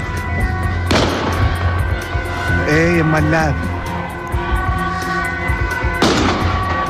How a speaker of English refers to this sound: De Amsterdamse politie heeft schoten gelost bij de arrestatie van een verdachte van een steekpartij.